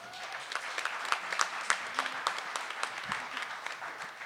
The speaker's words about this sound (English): Round of applause.